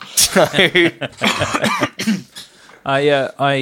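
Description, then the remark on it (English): A man coughs several times in short, rough bursts, mixed in with voiced talk and throat-clearing sounds, a chesty cough still lingering after COVID. “…'s cough there, a little bit of COVID cough still lingering”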